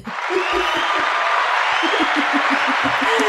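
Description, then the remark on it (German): Loud, dense applause from a crowd fills the whole stretch, steady clapping with scattered whoops and cheers mixed in. “Noch einen mega Applaus”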